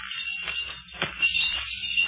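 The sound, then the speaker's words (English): Bells ring faintly, their tones lingering and overlapping against a muffled, noisy background with no one speaking. “There are those bells again.”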